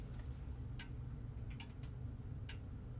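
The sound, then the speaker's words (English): Soft, steady ticking of the pendulum of an old grandmother clock, a few faint clicks spaced under a second apart, set against a low constant hum with no voices. “There's nothing quite like the sound of an old clock, and so I thought I would record one.”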